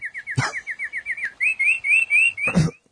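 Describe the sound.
A person whistles a canary-like bird call: a quick string of rhythmic, chirping trills, first a rapid series then slightly higher warbling notes, clear, with a couple of breathy clicks.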